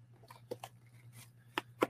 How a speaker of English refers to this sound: Use our Arsenal scissors to get this open.